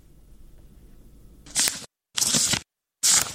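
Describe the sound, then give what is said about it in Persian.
Three crisp papery swishes of pages being turned in the books of a 14-year-old Afghan schoolgirl, each a short loud rustle separated by brief silences, following a few seconds of faint low background hum. “با هر بار ورق زدن کتابهایش خاطره تلخ روزی را به یاد می‌آورد که برایش اجازه داده نشد داخل مکتب برود.”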